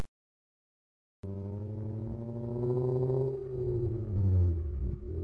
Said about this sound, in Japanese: 現在、めぐみが運転する車の中、しのぶは後ろの席で眠っていた。